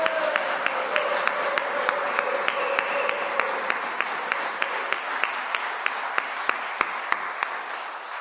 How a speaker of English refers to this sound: Okay, so we're going to continue together, but I think before they leave, I think we should give them another big cheer. So let's give them a big hand.